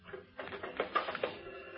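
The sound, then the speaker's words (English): A dictation machine being plugged in and switched on to play a dictation tape, with a short burst of mechanical clatter and whirring, small clicks and tonal blips rising out of the noise. “Yeah, plug that machine in, will you”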